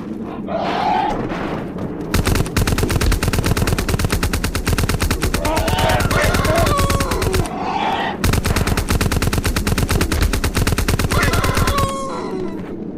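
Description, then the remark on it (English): Rapid, continuous video game turbo-fire gunfire rattles in two long bursts of fast, evenly spaced shots, loud and dense, with a brief pause between them and some tonal effects woven underneath. “Turbo fire.”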